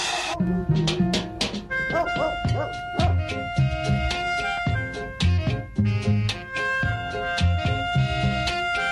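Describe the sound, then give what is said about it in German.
A crowd of dogs barks and yelps almost nonstop, overlapping sharp, pitched calls in a dense, fairly loud chorus that fills the whole stretch, with no one speaking. “besonders das Theater, was wir hier seinen Augen machen mit den vielen Hunden.”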